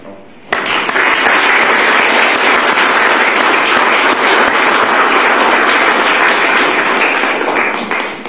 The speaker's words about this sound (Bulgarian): Аз просто ги поканих тези момчета, тези български мъже, да са сред нас, за да получат нашите аплодисменти.